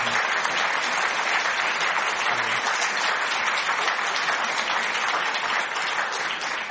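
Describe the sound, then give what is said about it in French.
A crowd applauds steadily for several seconds in thanks, a dense, even wash of many hands clapping with no pauses and no voices standing out. “Je crois qu'on peut de nouveau applaudir Antoine pour te dire un très grand merci.”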